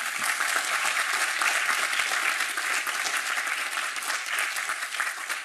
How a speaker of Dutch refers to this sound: ik vraag jou nu om naar voren te komen onder luid applaus.